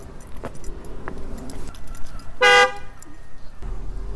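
A single loud car horn blast of about a quarter second sounds as Jan drives past honking, over a low rumble of passing traffic, with some faint metallic jingling before it.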